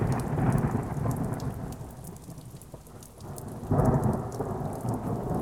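A thunderstorm with steady, heavy rain and deep rolling thunder that swells loud at the start, fades briefly, then rumbles back near the end. No voices are present.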